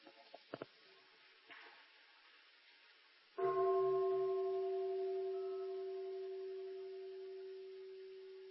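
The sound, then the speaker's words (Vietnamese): A single deep bell is struck once for the listeners at the close of a talk, after a few faint taps, then rings on with a steady, humming tone that fades slowly over several seconds. “Mời quý vị nghe một tiếng chuông.”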